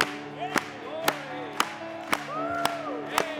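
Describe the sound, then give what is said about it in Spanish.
A church audience claps together in a steady beat, about two sharp claps per second, while singing a worship song, over sustained tones of singing or music with gliding melodic voices underneath. “Vamos a aplaudirle.”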